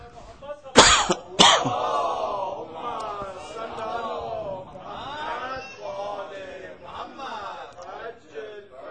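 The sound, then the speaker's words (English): Two sharp, loud coughs in quick succession from a man with a sore throat and a cough of two days, followed by him speaking with a slightly strained voice as a faint throat-clearing rasp lingers underneath. “My throat is hurting. I have the problem, cough problem from last 2 days.”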